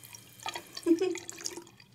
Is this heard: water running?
yes